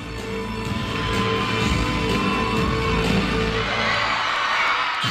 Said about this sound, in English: Her UCLA teammates right there cheering her on.